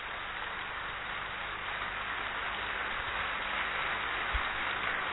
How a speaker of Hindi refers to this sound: एक बार आपके लिए तालियां जोर से बजाएंगे। ये युवाओं की तालियां नहीं है भाइयों, थोड़ी जोर से बजाइए, जोर से बजाइए, एक बार और जोर से बजाइए।